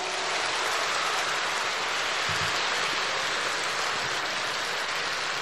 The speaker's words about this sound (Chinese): 我看你们鼓掌的都是明白人